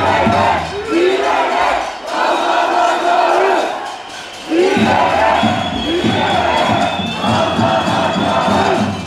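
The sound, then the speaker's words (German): A large crowd at a peaceful but loud protest against the annulment of an election chants loudly in unison, calling for democracy, rhythmic shouted phrases repeating with brief dips between them, a dense roar of many voices filling the whole stretch. “quasi einen friedlichen Protest, der aber laut ist, zu äußern gegen diese Annullierung der Wahl.”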